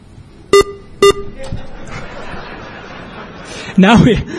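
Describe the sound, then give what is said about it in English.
Two short, sharp electronic beeps sound in quick succession about half a second apart while a radio station's RDS encoder is being programmed, followed by a low background hum and a brief burst of laughter-like vocal sound near the end. “One more beep.”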